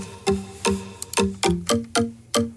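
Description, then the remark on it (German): Marimba notes struck one after another in a steady run, each bright mallet attack ringing out into a smeared, echoing tail from heavy delay and reverb; no voices. “Das ist so ein Marimba. Mit viel Delay drauf. Und Hall.”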